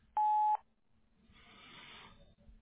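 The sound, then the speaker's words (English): A single loud electronic beep from an automatic voicemail system, signalling the start of message recording: a steady pure tone lasting under half a second, followed by a soft hiss of line noise with no voices. “At the tone, please record your message.”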